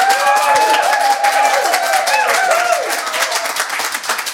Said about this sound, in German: Also, herzlich willkommen. Ich bitte Sie um einen tosenden Applaus. Hier ist Ralf König.